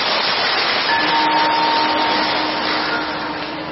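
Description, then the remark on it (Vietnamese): A crowd claps in a dense, steady wash of applause lasting several seconds, with a faint steady hum underneath and no voices. “Nếu quý vị thích thì hãy cho một tràng pháo tay lớn nào.”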